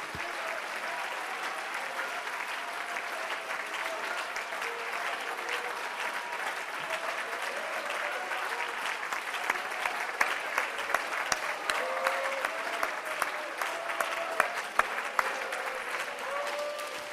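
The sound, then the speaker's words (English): A church audience claps and applauds steadily for a long stretch as a clap of praise to the Lord, dense overlapping hand claps with a few sharper claps standing out near the end. “Put your Bibles down and one more time give a clap to the Lord tonight.”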